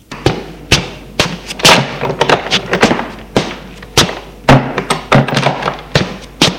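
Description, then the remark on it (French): Footsteps as a man walks into a living room and a woman follows him, a steady run of solid thuds and taps on a hard floor, some landing more heavily than others, with no one speaking. “Il va au salon, elle le suit.”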